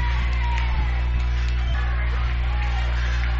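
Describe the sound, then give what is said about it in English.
A stadium crowd at a football game cheers in a steady, loud roar as the Yellow Jackets reach second and goal at about the 3-yard line, with people standing up on both sides; scattered yells and shouts rise out of the dense wash of voices, with a low hum underneath throughout. “The crowd gets into the game here. We got people standing up on both sides.”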